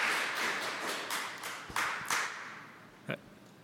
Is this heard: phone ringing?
no